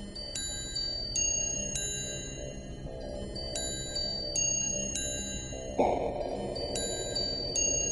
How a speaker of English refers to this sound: Hear the sledges with the bells, silver bells. What a world of merriment their melody foretells.